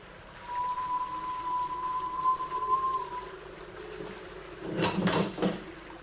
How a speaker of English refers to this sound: As I ran towards it, my sister's door was unlocked and slowly swung open.